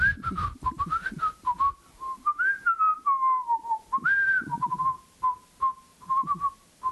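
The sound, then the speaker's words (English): A person whistles a bouncy Star Wars tune, clear pitched notes rising and falling in quick phrases with brief breathy gaps, lasting several seconds on its own. “We're not going to have a Star Wars whistle off right now.”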